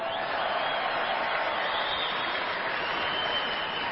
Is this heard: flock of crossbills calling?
no